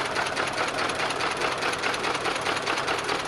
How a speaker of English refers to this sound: An immense steam power plant thumping away.